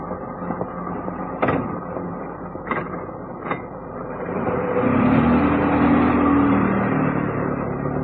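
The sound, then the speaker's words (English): A taxi's engine idles while a few sharp knocks, like a door shutting, sound at the start. The motor then revs up and swells louder as the taxi pulls away, heading for the northwest gate of West Ham Cemetery. “took a taxi, instructing the driver to go to the northwest gate of West Ham Cemetery.”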